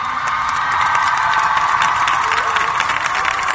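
A crowd applauds and cheers steadily throughout, a dense wash of clapping with scattered shouts rising above it, loud and sustained for the whole few seconds.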